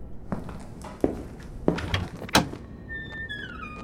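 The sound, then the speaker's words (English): Several heavy wooden thunks, like a stiff latch being worked, then a door at the end of a hallway creaks open on a long, high-pitched squealing hinge. No voices. “This hallway ends in a room. Is the door open? No.”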